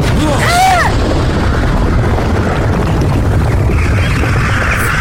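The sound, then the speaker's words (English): A heavy explosion roars with a deep, sustained rumble that fills the whole stretch, a brief warbling whistle cutting through near the start before the low blast noise carries on loud. “eventually was an explosion”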